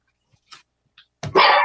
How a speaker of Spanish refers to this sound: ¡Ay! Me asustó mi perra que acaba de ladrar. ¿La escuchan? Pero qué sí, chiquita. Qué chiquita acaba de ladrar en el programa de radio. Te ha escuchado toda la gente, mija.